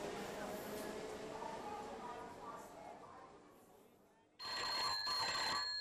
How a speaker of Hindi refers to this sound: देख बेटा किसका फोन है।